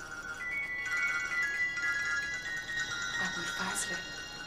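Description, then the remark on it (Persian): A mobile phone rings with a steady, electronic ringtone melody held for several seconds at moderate volume, with some brief rustling and background noise toward the end. “سلام، چه خوب کردی زنگ زدی، شارژ موبایلم تموم شده بود.”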